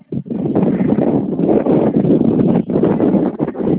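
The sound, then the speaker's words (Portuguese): Loud, continuous wind buffeting a phone microphone, a dense roaring rumble with brief dips, filling the whole clip without any voices. “tá ventando muito. É, tá bastante vento mesmo.”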